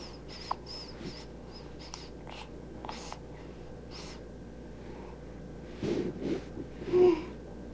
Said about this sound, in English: a yawn.